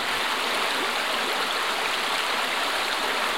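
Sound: flowing creek water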